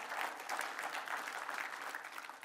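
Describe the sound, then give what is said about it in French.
A church audience applauding God together, a dense, steady patter of many hands clapping at an even loudness for the whole stretch, with no voices standing out above it. “Est-ce qu'on peut applaudir notre Dieu qui prend soin de nous ?”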